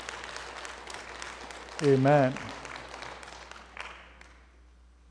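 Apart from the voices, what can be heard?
audience clapping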